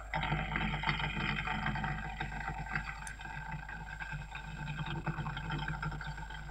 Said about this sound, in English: because underneath the tube chassis, the big 8-litre supercharged nitromethane burning engine of the fuel dragster.